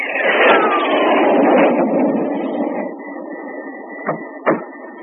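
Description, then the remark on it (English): A 22nd-century cargo jet engine roars broadly with a whine that slides downward. It then settles into a steadier, thinner hum with a faint sustained tone, broken by two short sharp knocks near the end. “A cargo jet in the 22nd century.”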